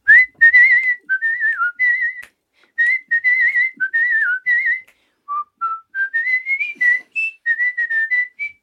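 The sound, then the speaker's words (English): A person whistles a lively jazz tune, clear bouncing phrases with short pauses between them, running steadily for several seconds with no talking. “Can't let you sit there without giving us a little taste of your whistling.”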